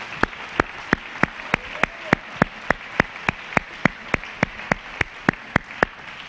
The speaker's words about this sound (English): If somebody else is clapping their hands, that's the reason for you to clap your hands right there, right there. That's called unity.